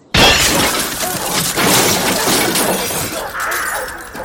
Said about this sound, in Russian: чуть сместила угол посадки и всей массой грохнулась вниз.